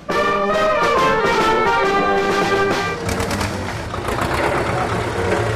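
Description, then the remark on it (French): A convoy of farmers' tractors, which had blocked the port of La Pallice that morning, rumbles past along the mall on a Saturday morning, their heavy engines droning loudly with a steady tonal hum that gives way to rougher, clattering engine noise halfway through. “Sur le mail, on croise le convoi de tracteurs qui a bloqué le port de la Palice pendant la matinée.”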